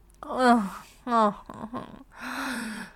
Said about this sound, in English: Oh, those sweet little groans and gasps.